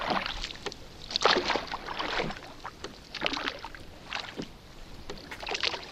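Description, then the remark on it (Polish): A small boat moves along the Narew River at Tykocin, water sloshing and splashing against the hull in irregular, moderately loud surges, with a steady watery hiss underneath and no voices. “Jesteśmy na rzece.”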